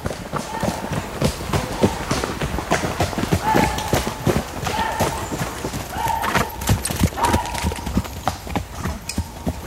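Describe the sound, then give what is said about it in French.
In the heart of a forest, the horses of mounted hunters gathered for a roe deer hunt with hounds clip-clop in a dense, continuous patter, with faint whinnies and brief tonal calls rising over the clatter, and indistinct voices in the background. “Là on est au cœur de la forêt. Et là on retrouve l'ensemble des veneurs à cheval qui sont rassemblés.”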